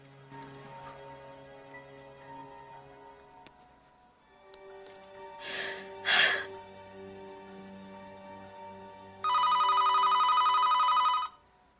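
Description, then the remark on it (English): A telephone rings once, loud, a steady buzzy tone lasting about two seconds near the end, after a quiet stretch of soft sustained tones and a couple of brief rustling bursts. “She starts, then picks up the phone.”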